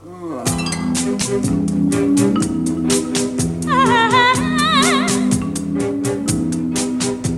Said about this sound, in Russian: А никакая не возня. Колоколец вот навешивали. Еще колоколец? Еще!